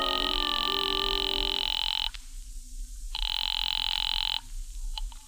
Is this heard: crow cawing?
no